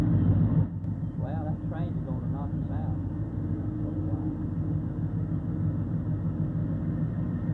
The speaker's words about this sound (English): Seven. It had seven units to it. Well, the train had seven engines? Seven engines going that way.